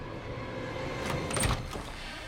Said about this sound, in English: Now, opening the door a crack, she eyes her doll lying on the other side of the threshold.